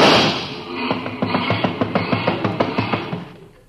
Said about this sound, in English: No matter what car comes in, he always races the motor.